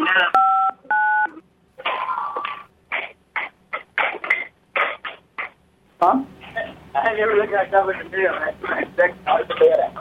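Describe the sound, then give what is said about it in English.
Two short, steady dual-pitch keypad beeps sound in quick succession as a phone number is entered into an automated phone system, followed by a voice talking over a thin, telephone-quality line. “Please enter your number one more time so we are sure to better serve you.”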